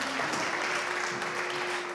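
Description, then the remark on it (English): A church audience claps steadily for the all-boy band at a morning service, a dense wash of many hands applauding at an even level, with a faint sustained tone humming underneath throughout. “Let's give a round of applause for the band this morning.”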